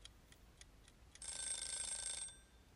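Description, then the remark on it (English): A few soft ticks lead into a timer alarm ringing loudly and continuously for about a second, a bright, shrill metallic ring that cuts off abruptly. No voices are present. “That's it. Timer's run out.”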